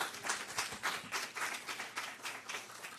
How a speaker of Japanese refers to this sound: Would you mind standing up? Just welcome him with a round of applause.